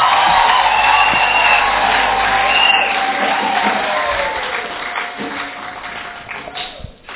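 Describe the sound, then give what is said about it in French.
A crowd cheers and applauds after a marriage proposal is accepted, with whoops and shouts over steady clapping that stays loud, then slowly thins and fades toward the end. “Applaudissez.”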